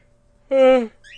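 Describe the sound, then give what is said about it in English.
A single voiced yawn of about half a second whose pitch slides downward, followed by a faint, brief high chirp. “As I yawn.”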